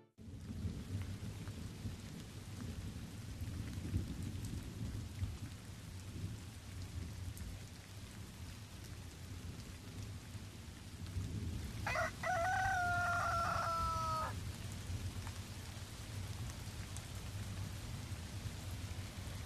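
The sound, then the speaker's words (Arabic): Steady rain pours down in a suburb (al-Dahiya) in the UAE, with a low rumble of thunder underneath, and partway through a rooster crows clearly against the wash of falling water. No one speaks. “طبعا اليوم مستمعين نحن اخترنا لكم صوت المطر في الضاحية والديج أذير والديج فمستمعينا بهذه الأصوات الرائعة صراحة ننهي حلقتنا لليوم”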